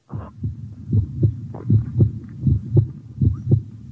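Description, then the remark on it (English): A heavy, pounding heartbeat thumps in a steady, quickened double-beat rhythm, deep and loud, with a low hum beneath and no voices. “He was brought to the gibbet, his heart pounding.”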